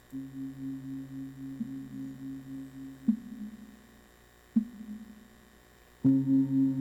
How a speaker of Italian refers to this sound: Lo lasciamo lì con il suono delle campane tibetane.